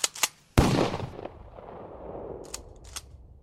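Sharp gunshots inside a family villa around 10 pm that crack like firecrackers: two quick pops, then a loud bang with a long rumbling echo, followed by a couple of fainter shots. No voices.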